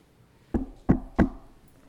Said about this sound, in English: And again, he stands at the door and knocks.